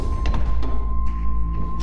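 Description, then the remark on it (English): Heavy steel door locking mechanisms clunk open in a series of sharp thuds, spaced irregularly over a steady low mechanical hum, fairly loud with no voices. “The moment your watch hits 5:55, you hear the heavy locking mechanisms disengage.”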